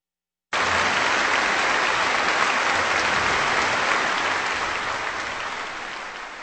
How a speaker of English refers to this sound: Applause for the Concertgebouw Orchestra of Amsterdam, Wilhelm van Otterloo, the conductor, and music by Beethoven, Symphony No. 4 in B-flat major, composed in the summer of 1806